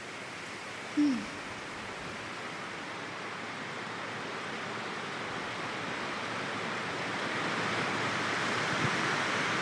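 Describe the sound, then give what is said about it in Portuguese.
Steady rain pours down in a dense, even hiss that holds for the whole stretch and swells slightly toward the end, with one brief high chirp early on and no voices. “Se você puder, você fecha os teus olhos e ouça esse som dessa chuva.”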